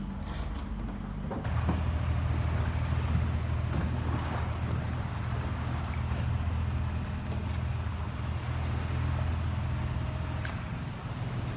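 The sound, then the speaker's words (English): A boat motoring across open water: a steady, loud low engine drone with wind and water wash swells in after a quiet first second and holds constant throughout. No one speaks. “They would rather sink this boat than let you get me back to Somalia.”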